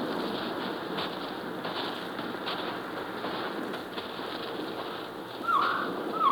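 A steady, hissing outdoor ambience runs throughout at night, then near the end a short, warbling bird call rises clearly above it, with a second brief note trailing off. No one speaks.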